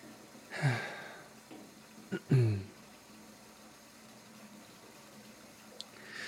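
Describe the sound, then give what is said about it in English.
Water is poured into a glass in two short splashy bursts, the second a little longer with a rising gurgle. “Sparkling water, too, if you want that. Or just regular.”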